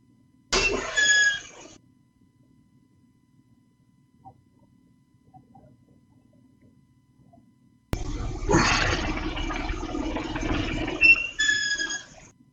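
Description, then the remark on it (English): A short burst of rattling, whirring noise from a homemade workout pulley setup in use as a man works out, with high squealing beeps, then silence, then a longer stretch of the same noisy mechanical grind with bright beeping tones running through it. “Just ambient noise and beeping. Well, the you're hearing the, it's the pulley.”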